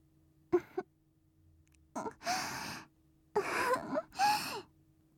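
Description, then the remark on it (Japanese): Soft, warm breathy exhalations blown at a listener's ear in short bursts: a couple of quick puffs, then longer airy, hissing breaths in two pairs, with no words spoken. “近いよ、吐息も生暖かいし。”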